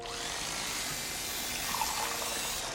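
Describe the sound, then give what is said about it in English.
A steady trickle of wine being poured into guests' wine glasses, a continuous splashing hiss lasting a few seconds with no voices. “Riffraff fills the guests' wine glasses.”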